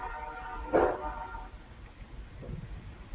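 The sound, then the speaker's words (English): A train horn on a railroad track blows one sustained, tonal blast that swells briefly and then fades within a second or two, over a low, steady background rumble. “And now the great conch shell is blowing on the railroad track behind us, so we'll wait one second here.”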